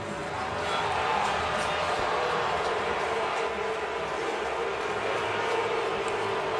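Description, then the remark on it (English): A ballpark crowd reacts as Pat Murphy and Guccione argue jaw to jaw, a steady, dense roar of many voices that swells in early on and holds at a constant level throughout, with no distinct words standing out. “And you can hear what's going on here at the ballpark, the reaction of the crowd.”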